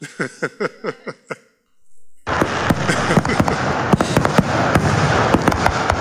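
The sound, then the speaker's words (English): A fireworks display bursting: about seven quick, rhythmic pops open the sequence, then after a brief pause a loud, dense barrage of crackling explosions takes over and continues steadily. “If producers, you can give me another round of fireworks, please.”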